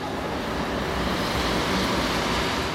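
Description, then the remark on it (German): Loud 16-wheeler semi trucks carrying shirts, electronic parts or melons rumble over a bridge between Nuevo Laredo and Laredo, South Texas, in a steady, dense roar of road traffic, a continuous low engine drone with no pauses and no voices. “Noch fahren die lauten 16-Wheeler, die riesigen Lastwagen mit Hemden, Elektronikteilen oder Melonen über die 4 Brücken zwischen Nuevo Laredo und Laredo.”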